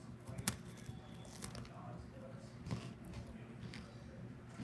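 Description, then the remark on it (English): Crisp crunches as someone bites into a cannoli, two sharp crackly snaps with a few softer chewing sounds between them, fairly quiet over a low background murmur. “Let me do this ASMR bite of a cannoli.”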